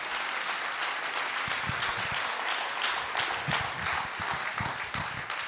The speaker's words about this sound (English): Give him a big hand clap at Calvary Gospel Church.